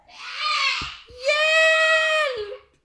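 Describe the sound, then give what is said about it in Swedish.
A Halloween monster screams in two loud, drawn-out shrieks, the first shorter and the second long and steady, with no talking. “Blodet droppar, vampyren biter, monstret skriker.”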